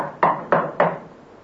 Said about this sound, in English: A week later, knock on the door.